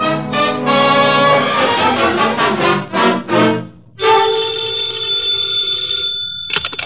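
telephone bell ringing

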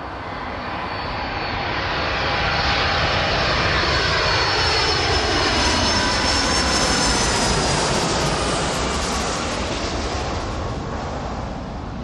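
airplane engine

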